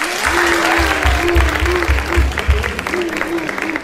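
An audience at a show claps steadily throughout, a dense, loud patter of many hands with a few voices mixed in underneath, lasting about four seconds without dying away.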